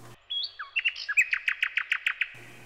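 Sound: nightingale singing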